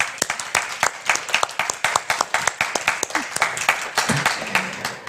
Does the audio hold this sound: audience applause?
yes